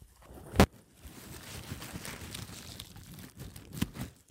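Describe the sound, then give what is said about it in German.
Two sharp, crisp snips of scissors cutting through a bundle of about 15 narrow plant stalks, one early and one near the end, with soft crinkly rustling of leaves in between and no talking. “Du hörst jetzt vielleicht, wie ich das abschneide ja.”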